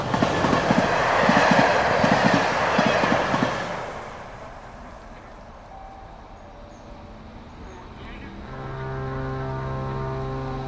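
A train rumbles loudly along the rails with a quick, rhythmic clickety-clack, then fades to a quieter hum before a long, steady horn sounds at the end.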